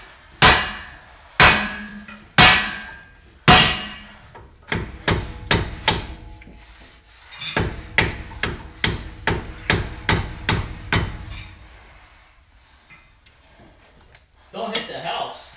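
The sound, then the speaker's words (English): Loud metallic hammer blows ring out as a hammer knocks out a seal, first four heavy spaced strikes, then rapid runs of sharp repeated hits with pauses between bursts, ending with a brief scraping clatter. “They're kind of like you swinging your hammer there.”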